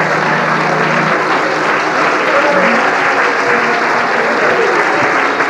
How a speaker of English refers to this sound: Now praise Him, everybody. Just while you're clapping your hands, lift your voice and praise Him out loud. All over this building, come on, clap your hands, all your people.